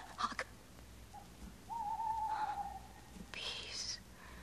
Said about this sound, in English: It was the owl that shrieked, the fatal bellman which gives the sternest good night.